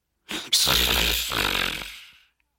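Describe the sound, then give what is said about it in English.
A single long, rasping snore, made by a human voice imitating a wolf, loud, rattling with a gritty throaty buzz for about two seconds before trailing off into silence. “Snored the wolf.”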